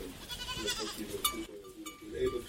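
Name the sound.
goats bleating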